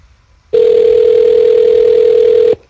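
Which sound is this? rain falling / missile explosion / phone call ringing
phone call ringing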